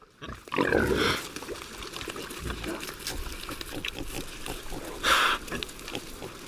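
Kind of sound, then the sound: animal, iberian pigs grunting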